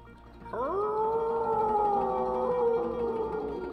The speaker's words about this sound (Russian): Волк завыл.